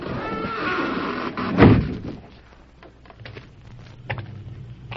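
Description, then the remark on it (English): A heavy, cleverly concealed door in a lateral shaft leading from the rear room of the Gold Nugget Cafe slides along with a dull rumble, then slams shut with a single loud thud, leaving a faint low hum and a small knock afterward. “Behind them, a cleverly concealed door slid shut.”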